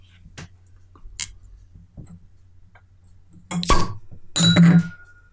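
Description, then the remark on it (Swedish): A bottle of Belgian beer is opened and poured: a few light glassy clicks and clinks, then two loud, short bursts of hiss and fizz near the end. “Öppna den istället så vi får provsmaka den.”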